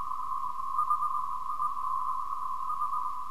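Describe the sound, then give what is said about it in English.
A steady, mid-pitched electronic tone from spacecraft telemetry, slowed down by a factor of two and filtered to remove background noise, hums continuously over a faint background hiss, holding an even level throughout with no clear breaks between beeps; it carries Morse code for the letters H and I (four dots, then two dots). “Sort of four dots followed by two dots. Does anybody know enough Morse code to know what that means? It's the letters H and I.”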